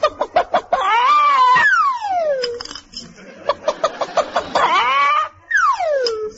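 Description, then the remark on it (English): A hen clucking and squawking while laying an egg, done as a loud, strained vocal imitation: quick bursts of clucks broken by long, drawn-out rising and falling cackles, with no talking. “We've either got to get smaller eggs or bigger hens.”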